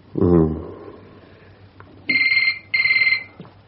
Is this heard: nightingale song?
no